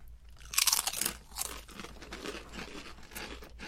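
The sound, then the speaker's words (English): Loud, crisp crunching bursts as sweet, salty, slightly spicy potato chips are bitten, followed by steady softer chewing crunches with no talking. “We'll do a chip cheers.”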